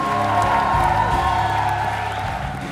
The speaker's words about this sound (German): Und dafür gab es im ausverkauften Stadttheater in Wilhelmshaven minutenlangen Applaus für das Ensemble.